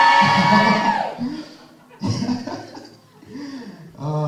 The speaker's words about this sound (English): Okay, let's hear a cheer for cats. Let's hear a cheer for dogs.